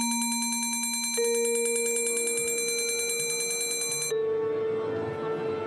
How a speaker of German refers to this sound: Aber man kann sich so einiges zuspielen da von den heimischen Geräten aus, zum Beispiel den Gong, den Originalgong aus der Oper.